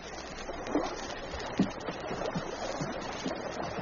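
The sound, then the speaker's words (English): Paddles dip and splash into water at a slow, even pace, coming from over the water, two sharper strokes standing out over a steady wash of moving water. The scene is fairly quiet, with no voices. “Suddenly, he caught the sound of voices, heard the rhythmic splash of paddles striking water.”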